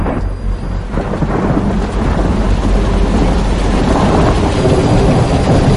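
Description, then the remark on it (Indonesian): Heavy rain pours down steadily with deep, rolling thunder rumbling underneath, a loud, dense wash of sound that stays constant throughout with no voices. “Hingga siang itu hujan turun sangat lebat.”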